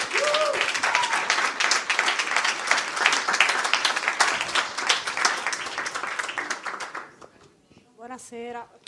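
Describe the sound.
A live audience bursts into sustained, loud applause and cheering for about seven seconds, then it fades out and a voice briefly speaks at the end.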